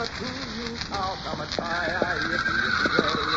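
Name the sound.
horses neighing and whinnying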